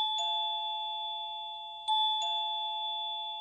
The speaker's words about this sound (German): Das ist die Klingel zu Ulrike Eidingers Reich.